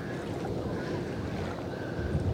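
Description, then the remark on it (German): Gentle water sloshes against a boat hull in a steady, low wash with soft breezy noise, fairly quiet, with no voices. “Die Wellen schwappen. Ist so schön. Hört ihr das?”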